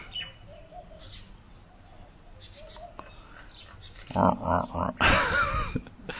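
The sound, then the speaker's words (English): Mynah birds call throughout, faint scattered chirps and whistles at first, then a burst of loud, raspy and warbling calls near the end. “These aren't parrots, but they're minor birds.”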